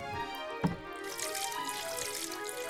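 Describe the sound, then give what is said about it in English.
Dew water wrung from a wet fleece streams and patters into a bowl, a steady trickle with a brief sharper splash early on, no voices. “A bowl full of water.”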